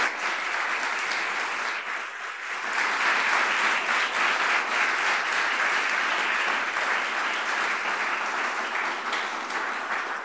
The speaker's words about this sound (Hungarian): Szeretnék kérni egy nagy tapsot a két fiatalembernek.